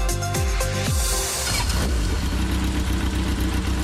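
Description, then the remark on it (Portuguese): A motorcycle engine revs up sharply in a couple of quick bursts, then settles into a steady, rumbling idle, loud with no voices. “As motocicletas são os veículos que mais causam acidentes fatais no Brasil.”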